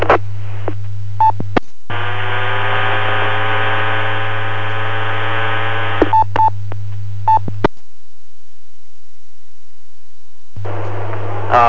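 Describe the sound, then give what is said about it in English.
An unidentified station keys an amateur radio repeater during a net check-in without anyone speaking: a steady carrier hum, short beeps, a long buzzy tone, several seconds of dead air, then the carrier returns. “Whiskey Alpha 7 Tango Echo Mike, have you got a copy on that station that is keying the repeater?”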